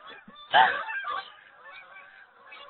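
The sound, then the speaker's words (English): Geese honk in a loud burst at first, their calls fading into softer, scattered honking as the flock flies by. “I'm just waiting for the geese to go by.”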